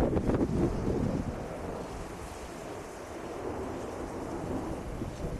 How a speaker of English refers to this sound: I'm going out to get the mail, and it's really windy out here.